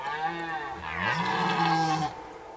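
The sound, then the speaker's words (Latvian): A deep, drawn-out bellow of a red deer stag in rut, a single loud roar of about two seconds that swells and wavers in pitch, heard alone. “Briežiem sēja briežu baurī, principā, tas ir ūdens, septembrs.”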